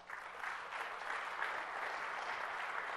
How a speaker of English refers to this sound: All right, that wasn't the round of applause I was expecting because there's some people in the middle that didn't quite see the value.